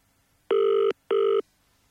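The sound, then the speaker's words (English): Two steady electronic ringback tones sound on a phone line as a radio show calls a listener, each lasting under half a second with a short gap between, loud against a quiet background. “Okay, it's ringing.”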